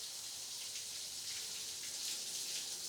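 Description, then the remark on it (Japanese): A shower runs steadily, its water directed over a person's back, the spray making a continuous bright hiss with soft patters of water hitting a surface. No voices, just the even rush of falling water. “シャワーを背中に回してかけていくよ。”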